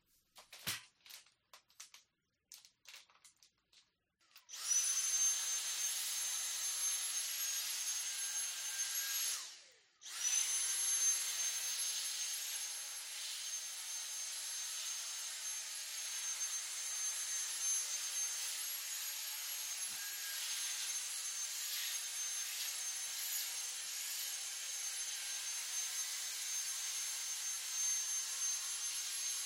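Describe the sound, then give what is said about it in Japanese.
A few seconds of knocking and clatter, then a vacuum cleaner roars on with a steady high whine as the floor is vacuumed, with the windows open. It cuts out briefly and restarts, droning on at an even level. “床が広くなったので、この辺で掃除機をかけましょう。”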